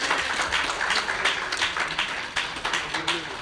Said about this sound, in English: Let's give him a hand clap of first. Amen.